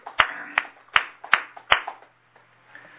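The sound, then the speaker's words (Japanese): A handful of sharp hand claps, about five in a steady, evenly spaced rhythm, followed by faint quieter clapping that trails off into near silence. No one speaks. The clapping celebrates a man's 72nd birthday at a morning prayer gathering on August 16. “満72歳を迎えられましたので、盛大な拍手でお祝いをします。”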